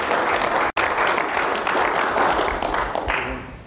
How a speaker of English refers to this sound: Let's give the Lord a good clap offering.